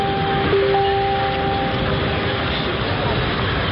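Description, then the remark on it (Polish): Busy train station ambience at Paris Gare de Lyon, France: a steady, loud wash of rumbling noise with a sustained metallic whine running through it, and indistinct crowd murmur in the background. “Nadia jest na dworcu.”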